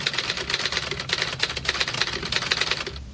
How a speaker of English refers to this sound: Well, it wouldn't be the news without a little typewriter action.